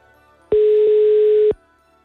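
One loud, steady telephone ringback tone of an outgoing call placed by Radio Ognjišče sounds for about a second, a single mid-pitched beep with silence before and after it and no voices.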